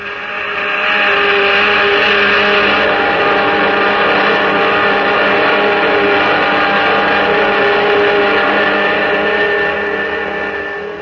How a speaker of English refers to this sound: Those jet dynamos you see before you exist. Jet dynamos driven by the harnessed power of 1,000 suns. Listen, Earthman. Listen to them.